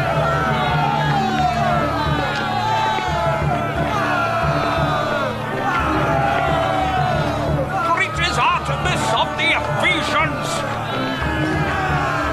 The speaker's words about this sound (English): When they heard this, they were furious and began shouting.